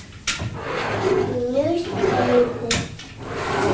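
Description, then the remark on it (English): A drawer slides open and shut, its wooden runners scraping and squeaking, with two sharp knocks where it starts and stops. “There's a juicy drawer.”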